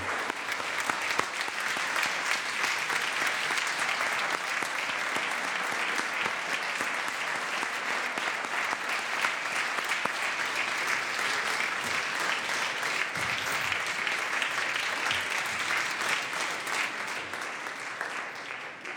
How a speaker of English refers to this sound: And as a parent, as many of us here on the floor, let's give a round of applause to the parents who witnessed their children becoming U.S. citizens today.